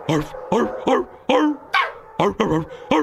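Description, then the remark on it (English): A dog named Peppa, one of the dogs up for adoption, singing on command: a quick, bouncy run of about eight loud, pitched yelps and short howls, each note sliding up or down in a sing-song rhythm. “No, I want one that sings. Alrighty then. Peppa, you heard the lady sing.”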